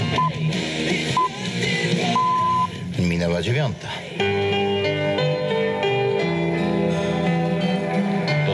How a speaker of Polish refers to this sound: Pierwszy sygnał Radia Biwak w ogóle. Tak, proszę Państwa, to było 18 lat temu.